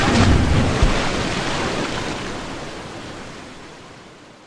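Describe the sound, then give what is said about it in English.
Ocean surf on a tropical island shore rushes in as a broad, hissing wash of water, loudest at the start and slowly fading away over a few seconds, with no voices present. “But it was lucky that we landed on this magnificent tropical island, where a witch doctor brought Nick back to life with magic and made us both kings of his land.”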